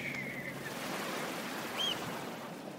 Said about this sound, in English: he lays down on the beach next to this big fire and he mellows out and he listens to the dash and roar of the waves.